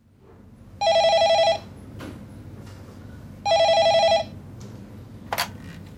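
A telephone at the HealthLink phone line rings twice, each bright warbling burst lasting under a second with a pause between, loud over a low background hum, followed by a brief click.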